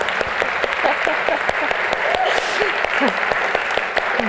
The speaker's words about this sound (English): And I've forgotten how to end this. With applause. There you go. Thank you.